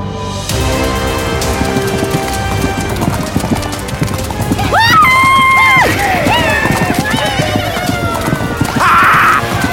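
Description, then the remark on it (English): Hooves pound in a fast, steady gallop, loud, as horses charge past; a horse lets out a high whinny midway, and another shrill neigh rises near the end. “A horse! A horse! This kingdom for a horse!”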